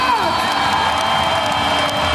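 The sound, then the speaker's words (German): A dense arena crowd roars and cheers after a goal at the Füchse Berlin versus THW Kiel handball top game in the Max-Schmeling-Halle (Fuchsbau), Berlin, a steady wall of shouting and whooping with high whistles gliding through, loud throughout the short burst. “Ja, ich war bei den Füchsen Berlin. Beim Topspiel gegen THW Kiel. Beim Handball im sogenannten Fuchsbau.”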